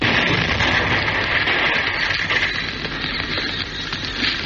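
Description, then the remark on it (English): A car in a garage explodes with a loud, sustained roar, flames bursting through the roof: a dense wall of hissing, rumbling noise that holds steady for several seconds without a sharp single bang. No voices are heard. “And suddenly, with a roar, a car in the garage exploded.”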